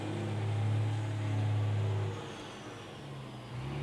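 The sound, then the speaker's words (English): A truck's heavy engine rumbles steadily in the background, a low drone that swells and then eases off as it drives past, with no voices. “Okay, got a truck in the background there going by.”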